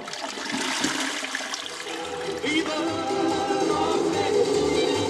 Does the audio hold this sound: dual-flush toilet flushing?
yes